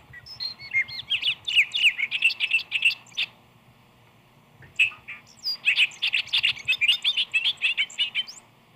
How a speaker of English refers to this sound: Then for energy, there is the bobolink, coursing over the meadow, wings aflutter and soul vibrating in its song.